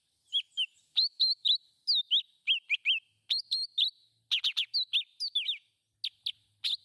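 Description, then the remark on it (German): A leafbird, a green bird, sings a rapid, varied stream of high chirps and whistled notes, short bursts packed closely with brief pauses, clear with no voices. “Wollte den Blattvogel direkt hinterher, den hast du mir auch zur Verfügung gestellt.”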